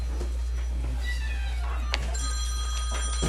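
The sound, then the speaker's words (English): A phone rings with a short, bright electronic tone pattern during a meeting, fairly clear over a steady low hum and faint background murmur. “If you all could turn your phones off or on mute, that would be fabulous.”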